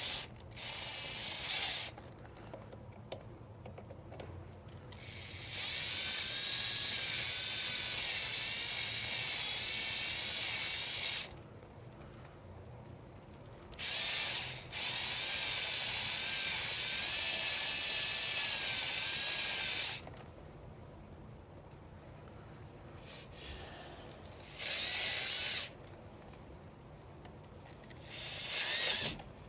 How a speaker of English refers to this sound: Man, y'all, I totally love the cordless drill. It's like one of the most useful tools you could ever have. Love, love, love this thing. It is so much stronger than I am.